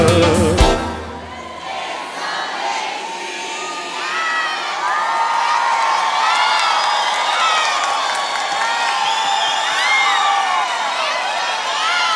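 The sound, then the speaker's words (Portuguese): A large audience at a live brega music performance in Recife cheers and applauds steadily for about twelve seconds, with many high shouts and whoops rising over a dense wash of clapping, loud and continuous from just after a brief opening burst. “Eu dedico essa salva de palmas a …”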